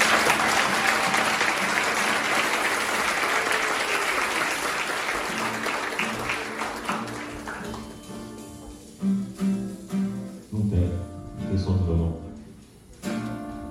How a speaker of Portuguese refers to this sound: Você pode aplaudir o Senhor com alegria?